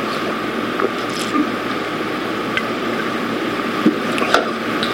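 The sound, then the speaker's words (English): A steady rush of water being poured into a vessel, with a few soft splashes and clinks breaking through the continuous pour. No voices are heard. “But now I've just poured. That water is just as much water as it was, but now it's right in here.”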